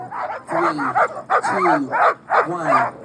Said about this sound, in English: The Iditarod Trail sled dog race started last Monday with hundreds of barking sled dogs and mushers high-fiving fans as they hit the trail.